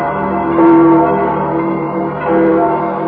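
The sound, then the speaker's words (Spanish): Church bells calling to prayer on a Sunday ring out in a rich, sustained peal, with two stronger strikes about two seconds apart swelling over a continuous resonant hum. No voices are heard. “Pues que las campanas que nos invitan a la oración nos inviten también a tener esa paz del Espíritu, esa misericordia que Dios nos da ejemplo, y a buscarle este domingo y todos los domingos.”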